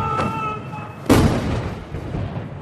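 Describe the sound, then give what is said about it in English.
A single loud ceremonial cannon blast booms out about a second in, its rumble trailing off into the open air over a steady outdoor background with faint sustained tones beforehand, fired at China's 70th anniversary military parade as soldiers march down the steps of the Monument to the People's Heroes. “Row upon row of soldiers march in perfect formation down the steps of the Monument to the People's Heroes as cannon fire fills the air.”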